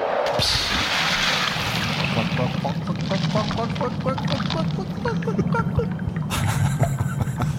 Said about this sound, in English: We'll wait to hear the splash of water. Once they hit the water, the spell automatically puts a lid on the ocean.